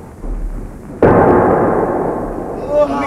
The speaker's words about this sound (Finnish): Se saa tuntea selässään suurimman harppunamme. Tykki valmiina! Tykki valmiina! Ampukaa!